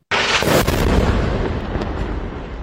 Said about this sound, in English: Now she and her children are trapped as fighting between Israel and Hezbollah intensifies, the sound of explosions almost constant.